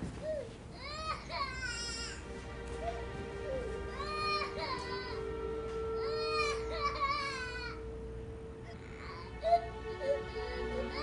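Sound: baby crying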